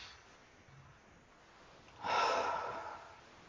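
A slow, deep breath: a quiet, faint inhale, then a louder, airy exhale that rushes out for about a second and fades. No one speaks.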